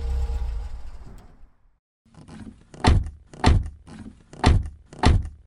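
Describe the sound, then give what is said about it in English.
A car engine rumbles and then cuts out as the car pulls up. After a short pause, four solid car doors slam shut one after another as everyone gets out, loud, with brief gaps between them. “pull up just below them, then everyone get out of the car slowly and with no sudden movements.”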